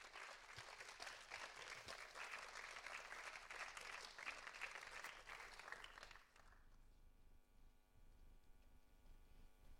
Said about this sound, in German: Einen großen Applaus schon mal.